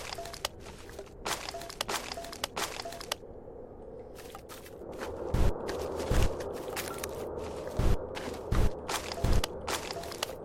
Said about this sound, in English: And I don't know why the footsteps are in stereo. That is rather weird.